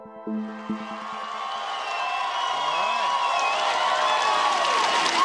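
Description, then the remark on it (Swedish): A large crowd of SpaceX employees cheers and whoops loudly at the company's base in Texas as founder and CEO Elon Musk stands before them on 12 June 2026, the roar swelling and staying sustained after a brief musical or tonal opening, with scattered clapping mixed into the dense noise. “Det är den 12 juni 2026 när SpaceX grundare och vd Elon Musk ställer sig framför ett gäng jublande medarbetare på bolagets bas i Texas.”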